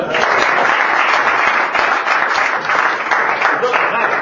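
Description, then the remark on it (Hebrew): An audience applauds loudly and steadily, a dense wash of many hands clapping that holds for the whole few seconds, with a few voices faintly mixed into the crowd noise. “חבר'ה, כפיים”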